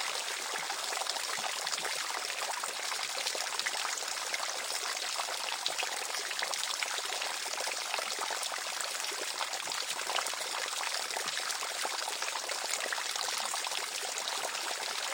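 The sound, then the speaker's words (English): Water rushes and splashes continuously over a waterfall, a dense, steady roar with a hissy, bright texture that never lets up, fairly loud, with no voices. “Near the waterfall's mist that kisses the sky”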